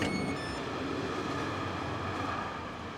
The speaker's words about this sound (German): Ein Dienstagmorgen am Bahnhof von St. Pölten. Der Regionalzug hat mich hier in der niederösterreichischen Landeshauptstadt ausgespuckt